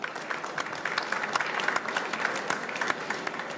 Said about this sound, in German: Herzlichen Applaus